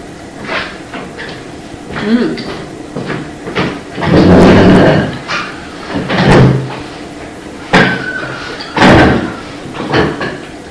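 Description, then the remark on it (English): A door is pushed shut against the cold with a series of loud knocks and thuds, wood rattling and scraping as it closes, followed by a firm slam, with faint background murmur. “Yeah, we're closing the door because it's cold.”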